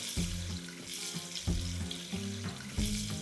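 Broth pours steadily into a hot frying pan of browned chicken legs and roasted spices, a continuous watery rush mixed with crackling sizzle, fairly loud with no voices.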